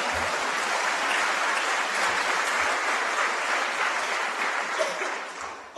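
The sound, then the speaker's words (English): Steady, dense applause from a crowd during a budget speech, for restoring cuts to community colleges and universities, a continuous wash of many hands clapping at a fairly even loudness that tapers off slightly at the end. “That's why, you can clap for that, that's a good thing.”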